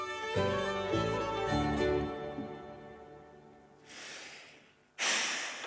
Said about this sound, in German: schnauft.